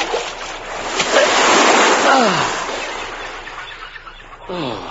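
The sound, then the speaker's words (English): Pacific Ocean surf off Malibu Beach washes in with a broad, hissing roar that swells over a couple of seconds and then recedes, as a man swims toward the shore, with a few brief, sliding tonal cries heard over the water. “And we join Carl now as he swims along in the Pacific Ocean.”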